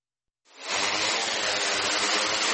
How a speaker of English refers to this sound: Drones like this are spraying a silicone solution across standing water, forming a thin layer that will eventually prevent mosquito eggs from hatching.